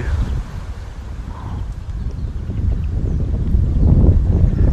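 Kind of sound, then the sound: nature, wind blowing outdoors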